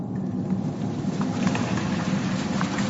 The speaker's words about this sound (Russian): Дождь идет.